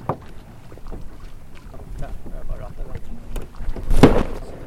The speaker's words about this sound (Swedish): Där var målskottet för första båten